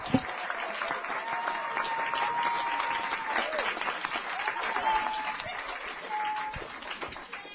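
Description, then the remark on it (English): An audience bursts into steady applause for an award winner at the 2017 WCHL Health Issue Challenge in Chapel Hill, dense clapping from many hands that holds at an even level for several seconds, with a few faint voices and whoops mixed into the crowd noise. “Everybody, let's have a grand applause”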